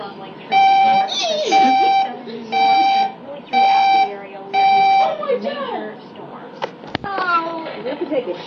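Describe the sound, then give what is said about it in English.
A television weather alert for a special weather report update sounds five long, steady electronic beeps in an even rhythm, fairly loud, with people's voices talking beneath them and continuing after the tones stop. “I'm gonna record the cool beep beep sound from Weather Channel”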